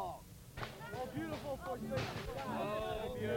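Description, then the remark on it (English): Scattered firecracker pops and bangs go off intermittently in the background while a crowd of voices sings over them, the bursts sharp but partly buried under the singing. “Once again with firecrackers going off in the background, another very familiar song is sung as the V-signs go up once again.”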